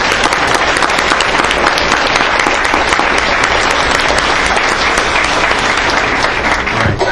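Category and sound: crowd, round of applause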